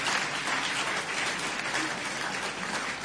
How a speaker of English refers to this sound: Clap your hands and pray for Jesus.